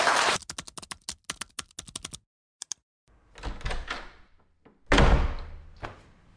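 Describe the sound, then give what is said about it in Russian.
A door opens as someone enters without knocking: a quick series of sharp latch and handle clicks, a brief pause, a scraping swing, then a solid thump as it settles. No one speaks. “Что, постучаться перед тем, как войти?”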